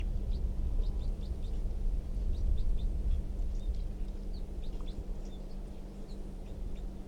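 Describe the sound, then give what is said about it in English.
A wild bird in a tree gives faint, scattered high-pitched chirps throughout, soft and irregular, almost buried under a steady low hum and rumbling background noise. No one speaks. “That wild bird, I think, is still in the tree, but it's very quiet”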